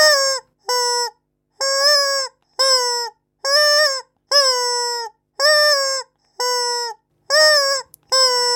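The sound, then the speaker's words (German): A rubber chicken toy squeaks in a series of about ten loud, harmonic honks with a steady rhythm, each squawk held for a moment with short gaps between, alone. “Die charakteristischen Geräusche entstehen beim Gummihuhn durch eine spezielle Atemtechnik beim Ein- und Ausatmen.”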